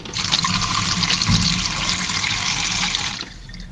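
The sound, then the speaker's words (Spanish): Water gushes steadily from a bathroom tap in a loud hiss for about three seconds, then cuts off abruptly, leaving a faint room tone. No one speaks. “Una canilla. Una canilla. Muy fácil esa. Sí, agüita.”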